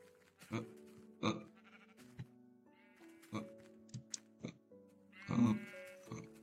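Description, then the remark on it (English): A sheep bleats several times in short, wavering, nasal cries, spaced irregularly, with a louder bleat near the end and faint sharp clicks between them. “They cannot even kill a sheep.”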